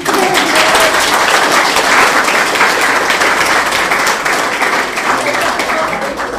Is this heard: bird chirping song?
no